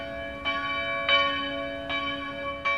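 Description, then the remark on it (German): The Marienglocke, a bell of Fulda Cathedral in Germany, tolls at 12 noon in steady, unhurried strokes: four strikes whose rich, humming overtones ring on and overlap between blows, heard alone with no voices. “12 Uhr. Im Dom zu Fulda läutet die Marienglocke.”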